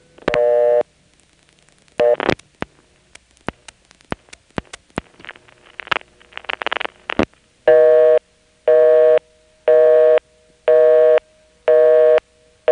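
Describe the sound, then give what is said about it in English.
Sharp mechanical clicks and clattering relay pulses from an NX1 crossbar telephone exchange in the Wilson 291 office as a busy number is dialed, followed by a steady, evenly spaced busy tone beeping five times, loud with no talking. “I'll pick up and dial a busy number and notice the NX1 pulsing right before it connects us to the busy tone.”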